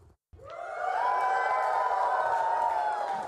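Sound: crowd cheering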